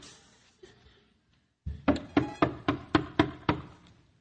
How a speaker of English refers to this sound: Maybe she went inside that inn to warm up. I'll go check. You can count on me. Never mind. We'll knock.